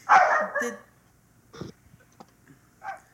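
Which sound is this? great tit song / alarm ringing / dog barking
dog barking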